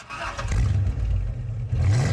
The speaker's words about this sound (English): And this is really common in car commercials. And so if you listen to number 6, which is just a car startup.